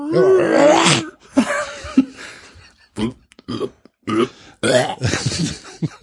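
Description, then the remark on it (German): A voice imitates a male cat's call with a series of low, guttural groaning yowls, rough and burp-like, in several loud bursts with short pauses between them, and no meow. “Ja, aber wenn es eine männliche Katze ist. Das. Ja. Aber auch dann hörst du kein Miau, bin ich mir sicher.”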